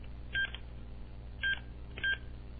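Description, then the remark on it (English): Three short electronic keypad beeps sound at uneven intervals as an access code is entered on a security system alarm panel to disarm it, each a clear, steady tone over a low background hum. “Then I'm going to type in my access code.”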